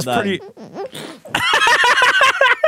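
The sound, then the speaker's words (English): A woman's voice makes a run of high, rubbery squeaks, like balloons rubbed together, with bending pitch in short bursts, loud, growing busier toward the end. “No, that's literally, yeah, that one sound at the end where she's squeaking.”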